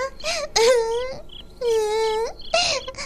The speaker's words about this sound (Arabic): استيقظي، لماذا تبكين؟